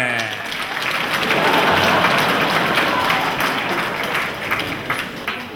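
An audience of soldiers bursts into sustained applause welcoming a young girls' group onto the stage, a dense, steady wash of many hands clapping at once that holds loud for several seconds before thinning slightly toward the end.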